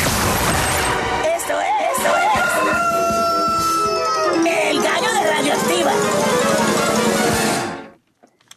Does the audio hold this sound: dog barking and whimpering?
no